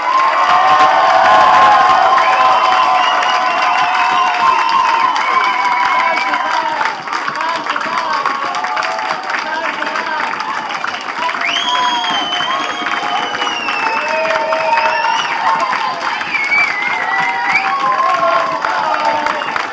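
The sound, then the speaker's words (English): A crowd at a live band performance cheers and shouts for an encore steadily for about twenty seconds, with whoops and high-pitched yells rising over a constant roar of voices, loud throughout. “And if you want us to do one more, then come on shouting.”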